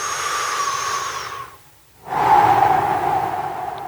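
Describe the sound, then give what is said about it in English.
A breathy, hissing inhale runs about a second and a half, breaks off into a brief silence, then a louder airy exhale follows. A person demonstrates strained, shallow chest breathing with no talking. “This is the breath of anxiety.”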